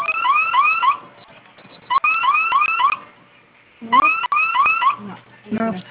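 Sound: security alarm going off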